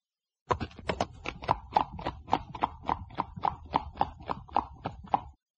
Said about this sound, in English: Look at this horse. Oh, what a fine horse. It's my best friend.